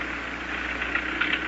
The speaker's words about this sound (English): They're starting up the motor of my taxi cab.